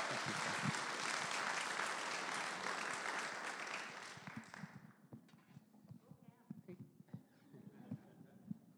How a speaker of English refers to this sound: So can we give him our attention and a round of applause?